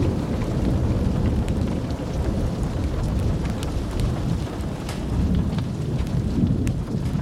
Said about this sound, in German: Der Donner rollte über das Land. Ein tiefes, resonierendes Geräusch, das die Luft zum Vibrieren brachte.